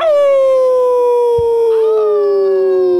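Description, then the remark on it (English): A person lets out a single long, loud howl imitating a dog, the pitch sliding slowly downward over about three seconds, with no talking over it. “I'd rather other people get screwed on presents than myself look like an idiot every time someone rings a bell and I have to howl.”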